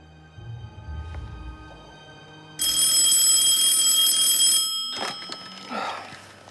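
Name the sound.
phone alarm ringing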